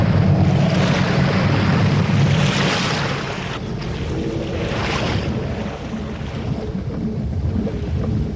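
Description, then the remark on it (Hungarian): Loud, continuous roar of storm wind and crashing sea waves as a storm breaks out over a ship at sea, with surges of surf swelling and easing throughout. “Kitört a vihar! Legyészség a fedélzetre!”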